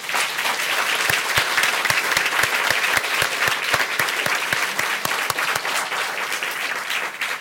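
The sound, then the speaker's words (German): A crowd in Drez claps loudly and steadily throughout, a dense, sustained applause with sharp individual claps standing out in a quick, uneven rhythm. No one speaks over it. “Und ich glaube, die Drezer spendieren uns jetzt nochmal einen kräftigen Applaus.”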